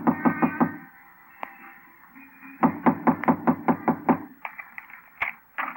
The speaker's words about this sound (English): It's locked. I can hear them moving around. Knock on the door.